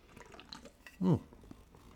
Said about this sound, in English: So I'm gonna take a little sip here, after talking to Osbury before we get into these next two recruits.